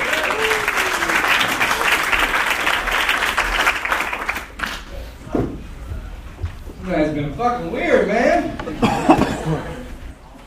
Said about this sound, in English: Let's get a big round of applause going for your next comedian,